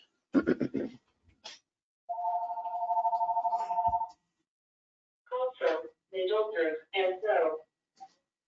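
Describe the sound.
A landline telephone rings once with a steady, buzzing electronic trill lasting about two seconds, clear, with a person talking just before and after it.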